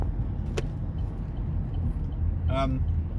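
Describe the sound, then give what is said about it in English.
Traffic merging on the M1 motorway: a steady, dense low rumble of vehicles throughout, broken by a sharp click early on and a short, tonal horn-like blare near the end. “Merging traffic on the M1.”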